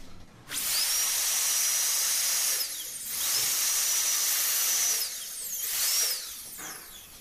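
A high-pitched dental drill fitted with a bur whines in three steady bursts, each rising in pitch as it spins up and falling as it winds down, with short pauses between runs.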